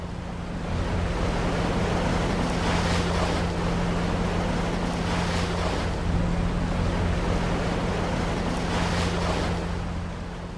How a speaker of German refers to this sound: Langsam schiebt sich der kleine Fischkutter durch den Atlantik. Der Wind ist stark, der Himmel blau und das Sonnenlicht glitzert in den Wellen, die gegen den grell-orange gestrichenen Bug schlagen.